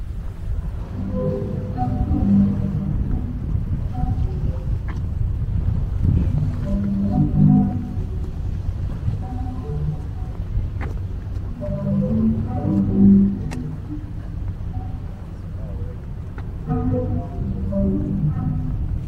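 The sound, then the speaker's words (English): Breathy, organ-like tones rise and fall irregularly as waves push air through the pipes of a sea organ built by an architect, drifting chords over a steady low wash of water and wind as it gets windy, continuous throughout. “And this is the Sea Organ that was done by a particular architect whose name escapes me.”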